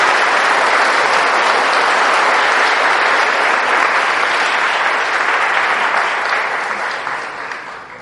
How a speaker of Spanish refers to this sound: ¿Quién le da un aplauso a Jesucristo? ¿Quién le da un aplauso a Jesús?